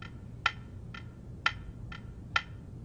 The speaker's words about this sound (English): You'll notice that the clock is ticking more slowly as I move it. Why is that? Well, the photon is making a zigzag path to reach one mirror and then the other.